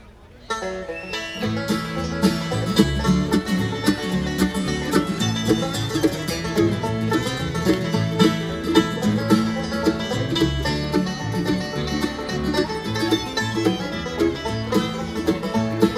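A full-band country song starts almost at once and plays steadily at an even, fairly loud level, with strummed guitar and a singing voice carrying the melody throughout.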